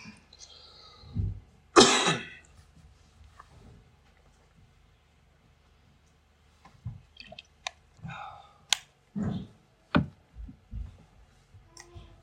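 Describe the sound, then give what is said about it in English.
A person coughs sharply and loudly, followed after a pause by several smaller throat noises, clicks and muffled bursts scattered across the rest of the quiet recording. “I wasn't coughing earlier this morning, I swear.”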